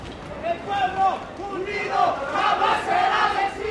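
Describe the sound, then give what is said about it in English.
A large, angry crowd of protesters yells profanities at police after the police shoot tear gas at them, in a continuous, loud roar with many overlapping voices rising and falling. “The police have just shot tear gas at the crowd that's yelling profanities at them”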